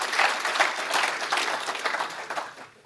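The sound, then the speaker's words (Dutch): An audience applauds the chairman in thanks for his efforts, many hands clapping in a dense, continuous patter that stays fairly even before tapering off at the end, with no voices over it. “Ik zie graag een applaus voor Paul.”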